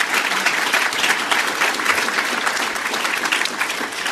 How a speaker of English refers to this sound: So let's give Forrest a big round of applause.